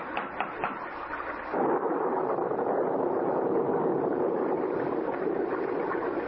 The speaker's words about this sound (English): We can't go any farther in this downpour.